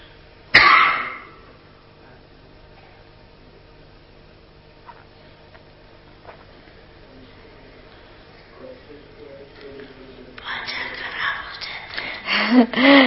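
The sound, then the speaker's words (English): A single sharp, loud cough bursts out right at the start and fades quickly. A long quiet stretch follows, then a rising wash of noisy sound near the end. “You know, … coughed and … saying this musical instrument sometimes gets disturbed, you know.”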